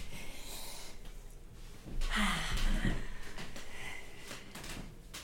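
A door being closed nearby: a brief scrape and a soft thud partway through, surrounded by quiet handling noise and room tone, with no one talking.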